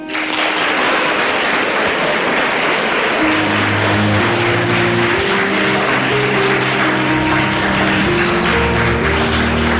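Dense, steady audience applause at the Colegio Nuestra Señora del Buen Consejo school in Villalegre, Avilés, fills the whole stretch at a loud, even level. About three seconds in, sustained musical tones rise beneath the clapping and carry on to the end.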